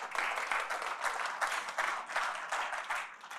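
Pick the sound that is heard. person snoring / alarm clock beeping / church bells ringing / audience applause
audience applause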